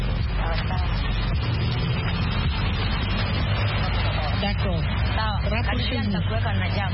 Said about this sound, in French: Je vois qu'il y a un peu de circulation.